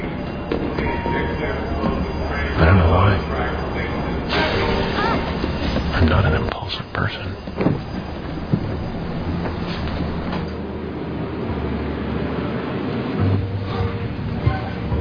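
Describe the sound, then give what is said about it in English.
A train bound for Montauk rolls steadily along the rails, its continuous rumble and faint clatter filling the background while a man speaks quietly over the noise. “Took a train out to Montauk.”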